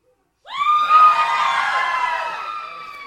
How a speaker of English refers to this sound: So if you're unmarried young woman from 2 to 30, please yell as loud as you can. And I know you don't want to, but yell it because you're in competition. Let me hear you yell. Just say, woo!